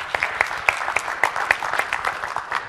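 An audience applauds, a dense, steady patter of many hands clapping at a moderate level, with a few sharper individual claps standing out throughout.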